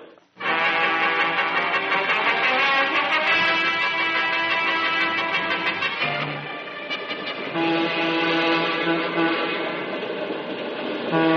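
train running on rails

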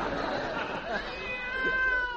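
cat meowing loudly

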